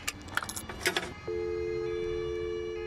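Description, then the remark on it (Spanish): A few metallic clinks and rattles of coins dropping into a public payphone in Madrid, followed by a steady, continuous dial tone that holds to the end. Clear, no talking. “Ha echado monedas y todo. Sí. Da tono.”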